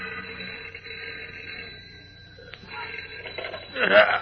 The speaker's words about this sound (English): A few minutes later, a sleepy night telegraph operator in the deserted Daily Planet City room yawns and reaches for the ringing telephone at his side.